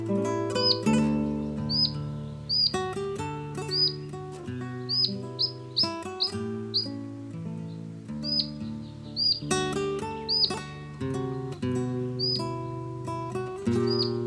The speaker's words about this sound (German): Das war der Halsbandschnäpper.